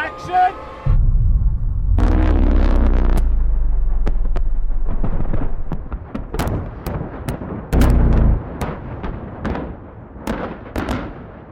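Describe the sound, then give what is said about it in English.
A massive film-set pyrotechnic explosion, called the largest in movie history and set off by a button after a countdown, erupts with a deep, sustained boom, followed by a rolling rumble and a scatter of sharp cracks and pops as debris and secondary blasts go off. “Largest explosion in the history of movies.”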